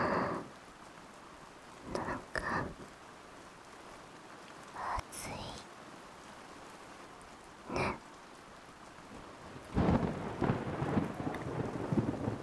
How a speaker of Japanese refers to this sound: 雷だ。怖いね。夕立かな。